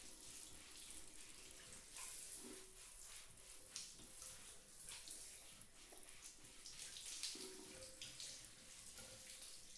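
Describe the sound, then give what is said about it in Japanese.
Water streams steadily, rinsing soap foam off a person, with a soft continuous hiss and occasional splashy surges. It's fairly quiet, with no voices. “綺麗に泡落としたよ。”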